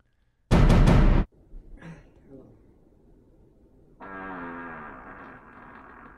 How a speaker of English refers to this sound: So I would like you to watch it and tell me if this is a normal, healthy fart.